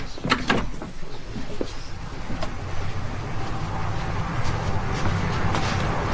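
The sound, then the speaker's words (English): A door opens and shuts, a few clicks and knocks from the latch and handle over a steady rumble, with faint shuffling afterwards and indistinct voices in the background. “I'll get the door, Mum.”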